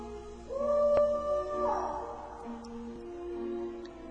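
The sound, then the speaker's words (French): An owl hoots at night: a long, wavering tonal call that swells and fades, followed by softer, lower drawn-out notes, with no talking. “Et le soir même, alors que chante le hibou, il se rend à l'autre bout du village, chez le marabout Issou.”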